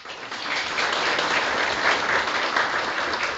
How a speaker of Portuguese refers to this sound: Salve de palmas.